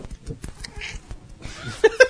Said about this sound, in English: It's the cat. You scratching the cat? Cat scratching himself. Oh, cat scratching. Cat with a very large beetle in his ear or something. With a weird baby voice.